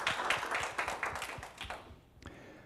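A crowd applauds with dense, overlapping claps that stay steady for a couple of seconds, then thin out and fade to a few scattered claps near the end.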